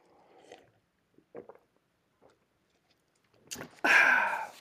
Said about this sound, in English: So Let me take a sip of my Diet Coca-Cola.